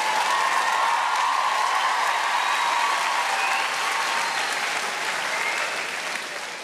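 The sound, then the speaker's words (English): A sustained burst of applause from a large audience of women, steady and dense throughout, loud, fading slightly near the end. No one speaks. “All those women clapping, they meant yours.”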